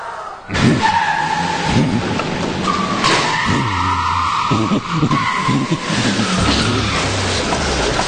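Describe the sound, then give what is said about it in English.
On a TV game show, a whammy character drives off: a car's tires squeal in a loud, sustained skid with wavering high-pitched whines, followed by the engine roaring as the vehicle speeds off. No one speaks. “that whammy just drove out of here with over $19,000 of your money.”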